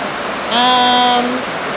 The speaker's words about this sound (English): I'm just wondering how this is going to sound. Yeah. It might sound really bad, guys. Sorry. It's pouring. And we can't go inside.